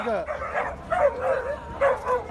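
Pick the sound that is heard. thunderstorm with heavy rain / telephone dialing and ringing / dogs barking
dogs barking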